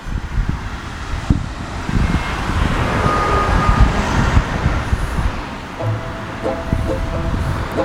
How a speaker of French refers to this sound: Donc là, il y a davantage de voitures qui s'engagent sur la bretelle qui mène à la voie express côté Lorient. C'est quasiment une voiture tous les 10 secondes.